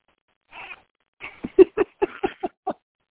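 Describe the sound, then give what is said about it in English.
A cat meows: a short breathy sound, then a quick run of about seven brief, chirpy meows in an uneven rhythm, with no one talking. “This cat was actually my excuse for why I did absolutely nothing”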